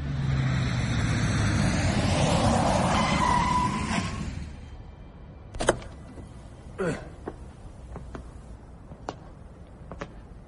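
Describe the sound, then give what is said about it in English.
A car roars and screeches through an underground car park in North London at midnight for a few seconds, then fades, leaving a hollow hush broken by scattered sharp clicks and taps reverberating around. “An underground car park in North London. Midnight.”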